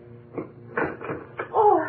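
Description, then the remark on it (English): A freezer lid being opened: a few dull knocks and rattles, then a short creaking squeal as it lifts. No one speaks. “Well, here, let me help you open it.”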